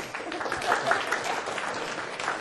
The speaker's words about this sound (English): I think the applause is for the discipline, too.